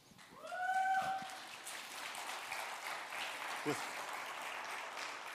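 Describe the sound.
An audience at a church service claps steadily for several seconds to welcome a speaker, a broad wash of applause that swells early and then holds at an even level, with a brief voice rising at the start.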